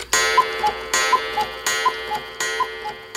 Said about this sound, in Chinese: 时钟当当地敲了12下，把睡梦中的美女唤醒了。